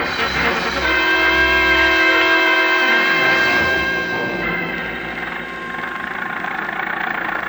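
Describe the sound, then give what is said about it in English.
An old Model T Ford engine roars steadily and loudly through the back streets of Cairo, with a buzzing, harmonic drone whose pitch dips and shifts partway through before settling into a rougher rumble. No one speaks. “I was slammed into an old Model T Ford, and off we went roaring through the back streets of Cairo.”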